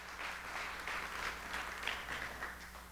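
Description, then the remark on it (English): A crowd breaks into sustained applause as a hand clap of praise, many hands clapping in a dense, steady wash for several seconds without any voices on top. “Give me my hand clap of praise.”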